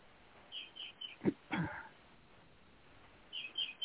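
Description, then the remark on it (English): Faint, high chirps of a bird in Florida come in short bursts early on and again near the end, with a brief sharp rustling noise in between. Otherwise the background is quiet. “It seems to be making sense to the bird behind you.”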